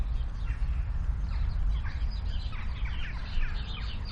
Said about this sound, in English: Yeah, we've got quite a lot in North Kingston. Mm-hmm. So this is Damon's sparrows.